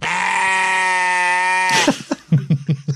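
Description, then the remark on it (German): A loud, drawn-out sheep bleat, used as a sound effect to censor a spoken word, holds steady for over a second and a half, then cuts off into a few short, choppy bursts of voice. “Du kannst es ja sagen und dann piepsen wir es weg. Mit so einem, mit einem Man von einem Schaf.”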